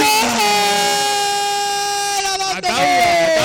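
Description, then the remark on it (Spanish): A loud, steady end-of-period buzzer horn blares continuously for several seconds in a basketball arena as a last-second two-point basket is scored, with excited voices and crowd noise rising beneath it near the end. “La dan de dos sobre la bocina.”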